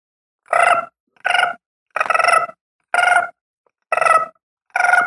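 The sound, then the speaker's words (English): A gray tree frog gives six short, loud trills in a steady series, each a rapid rattling burst of pulses lasting about half a second, separated by brief silences. “The gray tree frog has a kind of a short trill.”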